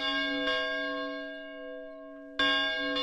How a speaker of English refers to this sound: So you went and recorded the bells at St. John's. Yes, I felt that another sound from Lincoln's era that he would have heard would be any church bells or bells ringing in the neighborhood of the executive mansion in that time period.